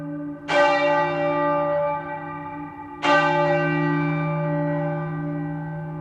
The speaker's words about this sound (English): the bells we can hear are those from what is referenced as a steeple, but are housed in the tower of St Giles Church